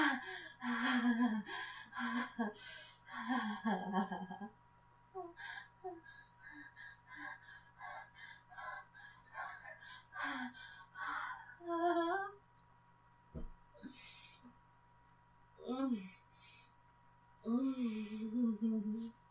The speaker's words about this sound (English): That was some really nice panting.